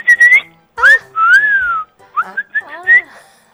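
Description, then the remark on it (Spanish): A person whistles a bird-like sequence of short phrases: bright steady notes, swooping rising glides and quick warbling trills, separated by brief pauses, with no talking. “descubrí que tenía una habilidad en el silbido.”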